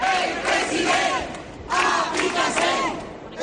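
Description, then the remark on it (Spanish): A large crowd of hundreds of protesters, gathered in the surrounding area as Mazón arrives for his appearance, shouts loudly together, voices swelling in two rhythmic surges like a chant, with a dense roar of many voices filling the gaps. “Mientras sigue la comparecencia de Mazón, vamos a repasar cómo ha sido su llegada, porque los aledaños al Scorch, centenares de personas, sonaba así.”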